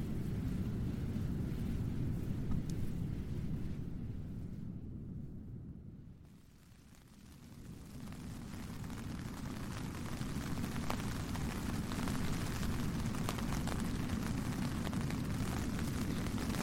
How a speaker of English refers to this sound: It's 8:30, and as you can hear, it's raining again.